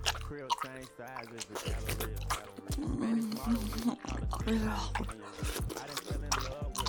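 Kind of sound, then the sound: human body sound, wet mouth sounds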